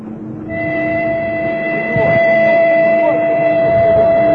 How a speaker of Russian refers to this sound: Поезд приближается к праздничной арке, украшенной цветами, лентами.